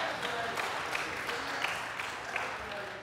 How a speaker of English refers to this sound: Now, are you really excited or are you just clapping because you want to?